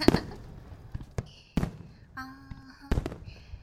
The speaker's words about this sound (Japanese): 綺麗だね、花火。